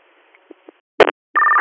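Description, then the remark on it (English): Electronic alert tones over a radio channel: a brief static burst, then a loud steady tone that holds to the end. Faint radio hiss and a couple of small clicks come before it. “Would you like another set of tones?”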